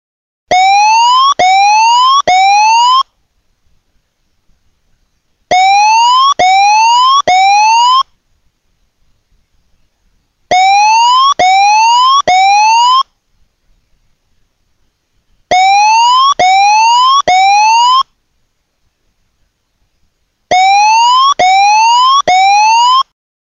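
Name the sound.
tsunami warning siren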